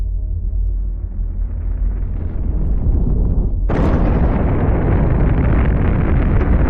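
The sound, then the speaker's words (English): A Big Bang explosion sound effect, representing the creation of the universe: a deep rumble swells for a few seconds, then bursts into a loud, roaring explosion that keeps thundering with a broad, sustained blast until the end. No voices. “Standard cosmological theory says that the universe was created during the Big Bang.”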